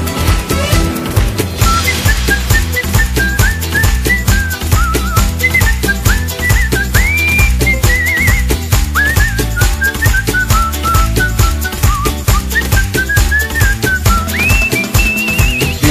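A person whistles a lilting melody with sliding notes over a steady, loud rhythmic music backing that carries on throughout, with no talking.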